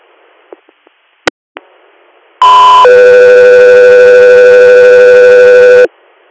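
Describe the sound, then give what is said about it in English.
A few faint clicks, then loud radio dispatch alert tones for Sky 3 Air: a brief high tone shifting into a long, steady lower tone held for about three seconds before cutting off abruptly. “Sky 3 Air, standby for tones.”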